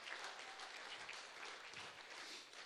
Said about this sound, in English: Clap your hands to the Lord this morning. Hallelujah.